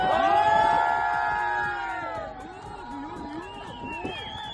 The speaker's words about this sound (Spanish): Y todo mientras, como escuchábamos, eran vitoreados por un grupo de personas que estaban asistiendo al espectáculo en el puerto de Barbate.